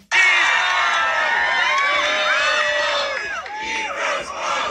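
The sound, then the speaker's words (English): A large crowd in New York cheers and roars continuously for several seconds, many overlapping voices shouting and whooping at a loud, sustained level with rising and falling yells throughout. “I just want to hear a crowd of people cheering, eat those balls.”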